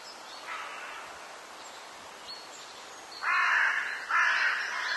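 Forest ambience with a steady soft hiss, a faint crow caw early on, then two loud, harsh caws in quick succession toward the end. No voices.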